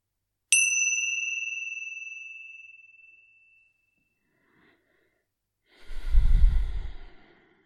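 A single bright meditation chime rings out with a sharp strike and a long, shimmering decay that fades over a few seconds, followed by a deep, audible breath.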